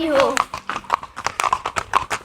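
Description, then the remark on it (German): Horse hooves clip-clop in a steady, even rhythm, fairly close and clear, with a short whinny at the very beginning. “Das passt ja super perfekt zum Ponyhof.”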